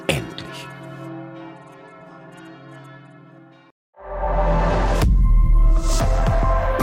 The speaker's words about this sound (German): Und während die Orgel spielte und die Glocken sämtlicher evangelischer Kirchen in Berlin läuteten, verließen erst die allerhöchsten Herrschaften den Dom und dann die Gemeinde.